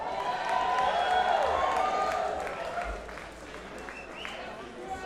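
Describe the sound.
A large crowd outdoors at the White House roars and cheers continuously, some people holding up copies of the Washington Post, with a dense wash of many overlapping voices, scattered shouts and a few high whistles rising above the steady din.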